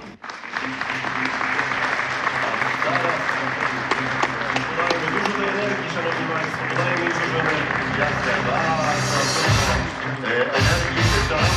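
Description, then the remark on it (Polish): A large audience in a full hall applauds steadily for about eleven seconds for 28 Poznań city scholarship holders, a dense, loud wash of clapping with voices mixed in beneath it, thinning briefly near the end before swelling again. “Jednym tchem, 28 osób, wielkie brawa.”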